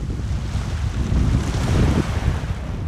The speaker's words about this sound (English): But when it arrived nearly 2 weeks later in Dutch Harbor, it was greeted only by a brisk nighttime wind.